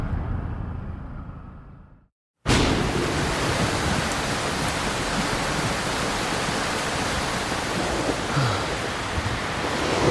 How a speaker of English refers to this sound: Oh shit, just got caught in some super intense rain. Wow, we're scootering home and the skies just fucking opened up on us. I am completely soaked.